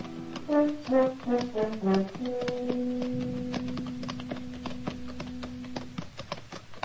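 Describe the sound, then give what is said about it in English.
Horses' hooves clip-clop as riders come up the almost deserted main street of El Cater at noon on a hot day, in a steady, uneven patter of sharp knocks, heard over a short melody that settles into a long held note. No one speaks. “It was noon of the second day when we rode up the almost deserted main street, hot, saddle-weary, hungry.”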